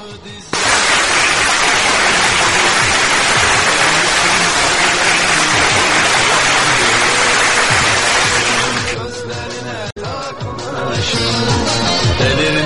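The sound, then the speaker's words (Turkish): An audience bursts into loud, sustained applause after a poem is read out, a dense wash of many clapping hands lasting about eight seconds before it dies down and other sounds take over. “Alkış gerekiyor değil mi arkadaşlar?”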